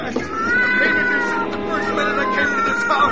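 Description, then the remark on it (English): A cat, Lady Susie, yowls and meows in distress while writhing and scratching as a man tries to push her into a furnace, a loud, drawn-out wail that rises and falls in pitch for several seconds, almost without a break. “drop that cat this instant”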